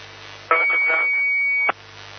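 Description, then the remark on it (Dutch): Over steady radio hiss, an amateur radio transmission during a net on the 2-metre band opens for about a second, carrying a steady high-pitched beep under garbled, voice-like sounds, then cuts off with a short burst and the hiss returns. “Volgens mij zat er een piepje bij.”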